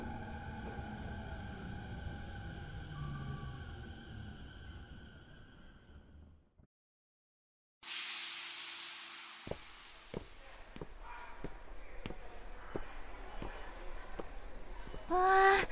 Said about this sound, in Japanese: あ、そろそろ電車着くね。